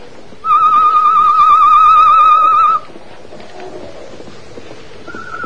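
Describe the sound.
A loud, warbling whistle imitating a bird call, sounded by Tonto as a signal, holds steady for about two seconds, then fades to a quiet outdoor background with a faint answering tone near the end, the reply to the signal.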